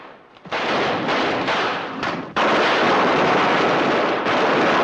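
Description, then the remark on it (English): A dense, continuous barrage of gunfire, a hail of bullets aimed at Frank and Jesse as they flee a bank on horseback: loud and crackling, with shots blurring into a steady roar that briefly dips before surging back even louder. No voices. “Confronted by a hail of bullets, they try a different route, only to find that blocked as well.”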